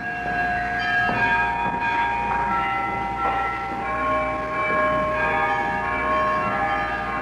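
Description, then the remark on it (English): Church carillon bells of an 8-bell carillon in Sitka play a slow sequence of struck notes at different pitches, each tone ringing on and overlapping the next over a steady background hum, with no voices; a historic recording. “The bells have often rung in Sitka since then, but they haven't sounded anything like this.”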